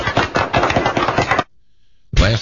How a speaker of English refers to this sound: Wow. Well, they all stopped clapping at the same time. They ended quite abruptly.